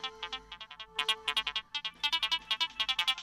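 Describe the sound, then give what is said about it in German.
A woman's mobile phone ringtone chirps out a quick, repeating electronic melody of bright, evenly spaced beeps while she sits on the floor cleaning shoes, sounding clearly with no voices over it. “Ihr Handy klingelt.”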